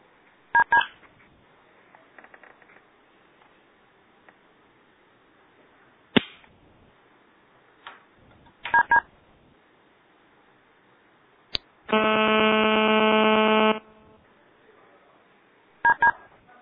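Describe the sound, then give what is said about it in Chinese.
Brief telephone keypad DTMF beeps, star six pressed to unmute on a conference call, sound a few times, widely spaced, with a longer buzzy electronic tone of about two seconds in between, over a quiet background with no talking. “线上同事如果有问题的话，可以摁电话的星六，然后解除静音就可以提问了。”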